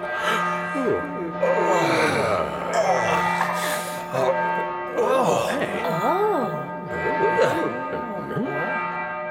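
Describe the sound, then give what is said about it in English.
A bell in a cave, bumped by someone's head, rings very loudly with steady, sustained overlapping tones throughout, while voices gasp and exclaim over it in rising and falling bursts. “The bell is ringing.”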